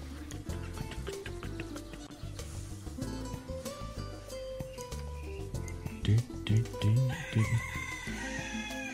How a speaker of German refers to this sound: Jetzt kommt der Hahn von der anderen Seite. Der wandert. Ja, der guckt sich die Hennen ganz genau an. Ja. Und dann und außerdem muss er sich mit dem anderen Hahn auch noch rumschlagen. Ach, stimmt, ja, richtig. Er will ja alle für sich haben.